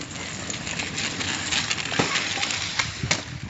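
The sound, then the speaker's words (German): Children arrive at school on kick scooters around 7:45 in the morning, rolling past with a steady rumbling wheel noise over pavement, punctuated by scattered clicks and clinks; no one is talking. “Gegen 7:45 kommen die Kinder mit dem Roller.”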